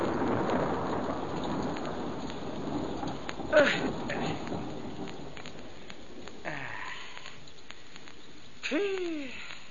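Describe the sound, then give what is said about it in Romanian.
Steady rain patters in a dense, hissing wash, with a few sharper drips and a faint rumble, while curving whistle-like calls rise briefly near the end. “Și eu mă lungesc sub tine să nu mă facă ploaia ciușulitei.”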